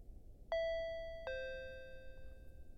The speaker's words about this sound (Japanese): ん？インターホンが鳴りましたね。あ、そのピザ。君のスマホを使って僕が頼んだんですよ。